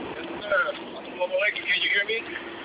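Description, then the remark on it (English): Loud, steady rumble and rushing wind from a moving truck cab, heard over a tinny, band-limited phone line, with faint muffled voice fragments mixed into the noise. “No, I'm just driving on the truck.”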